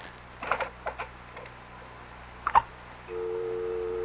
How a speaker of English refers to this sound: There's no one on the line. It's just a dial tone.